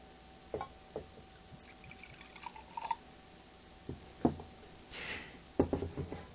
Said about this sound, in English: And now, who is ever is at your table that is in charge, will, as I do, pour from the Kiddush cup some wine for each person who is present.